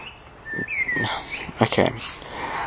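A bird calls close by with a clear rising whistle followed by a quick run of sharp chirps and chattering notes, fairly loud against a soft background hiss.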